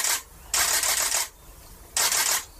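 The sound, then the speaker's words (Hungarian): Three bursts of rapid camera shutter clicking as someone tries to photograph a bathing bird, each a crisp, bright rattle lasting under a second, separated by short pauses with only faint background hiss and no voices. “És most megpróbáltam lefotózni.”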